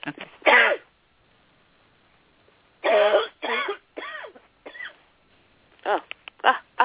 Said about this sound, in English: I'm going to sneeze here. Hold on.